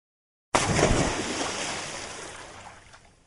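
A sudden, loud splash as a little cow plunges into a lake, followed by a wash of churning, sloshing water that slowly fades over a few seconds.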